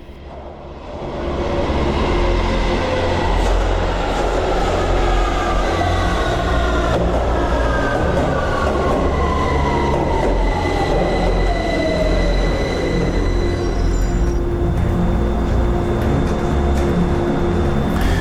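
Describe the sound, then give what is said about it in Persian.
A Tehran metro train rumbles along, a steady loud roar with droning low tones and high wheel squeals gliding across the middle of the run. “نه و ده دقیقه که از مترو پیاده شدم”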